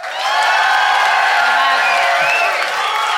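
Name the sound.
audience applauding and cheering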